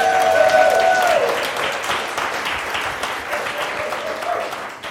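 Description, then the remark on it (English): A large audience bursts into loud, sustained applause and cheering, with a shrill whistle or whoop rising above the dense clapping at the start before the ovation eases slightly. “And now you can cheer.”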